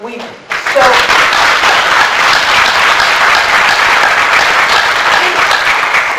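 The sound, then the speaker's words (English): A large audience of animal control staff from across the nation breaks into loud, sustained applause, a dense wash of many hands clapping that swells quickly after a brief opening and holds steady throughout. “What is more disturbing than the fact that animal control staff from across the nation responded with a thunderous applause, undermining their claim that they are committed to saving lives?”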